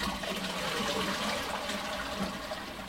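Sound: toilet being flushed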